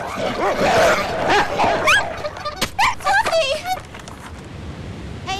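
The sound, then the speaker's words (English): A woman's dogs, out on a walk, bark and yip in a quick, excited flurry of short bursts with a few whiny, rising yelps, then the noise fades into a busy background. “Passing a woman who's walking her dogs, the clown sat upon by one of them. He kicks it away.”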